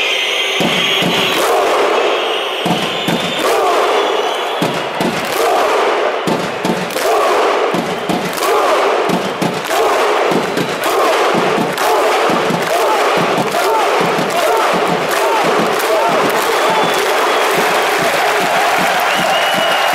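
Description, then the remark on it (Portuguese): A huge football stadium crowd in the stands roars a rhythmic support chant, with loud claps synchronized in unison and booming shouts landing on a steady beat roughly once a second, continuous and dense throughout. “E ao mesmo tempo inventaram nas bancadas um grito de apoio, que não se sabe bem a origem, mas que tem emocionado todo o mundo do futebol.”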